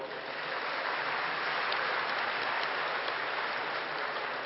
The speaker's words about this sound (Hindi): जरा ताली बजाओ।